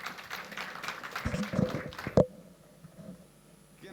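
An audience bursts into brief applause, a dense patter of many clapping hands that fades after about two seconds, capped by a single sharp knock before near-quiet.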